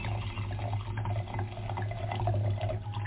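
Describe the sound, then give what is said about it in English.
Ice-blue wine pours from a bottle into a glass in a steady, continuous gurgling stream lasting about three seconds, with a low hum underneath and no voices. “But I'm dying to see what this looks like when it comes out of the bottle into the glass.”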